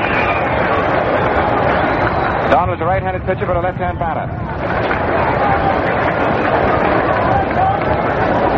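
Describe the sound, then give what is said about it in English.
A large baseball stadium crowd applauds and murmurs as a pitcher steps out of the Yankee dugout into view, in a dense, steady roar that fills the whole stretch, while a man speaks briefly over the noise near the middle. “Here he is coming into view, and there's the applause growing as the fans out here see it.”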